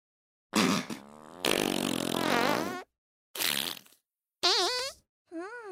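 A run of loud farts, several separate blasts with one long, wavering, squeaky stretch, then shorter sputtery bursts and a brief final toot. No talking.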